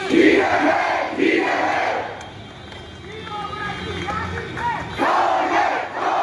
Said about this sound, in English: Well, today we saw the biggest protest yet following the coup. Thousands of people turned out on the streets of the commercial capital, Yangon, to condemn it and demand the return of the legitimately elected government led by Aung San Suu Kyi.